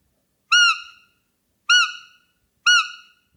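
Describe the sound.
Three short, high-pitched squeals from a roe deer lure call used to attract roe deer bucks, signalling a doe willing to mate, evenly spaced about a second apart, each rising sharply and fading quickly, with silence between them and no voices.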